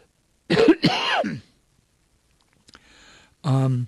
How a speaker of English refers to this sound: Excuse me, I need to cough.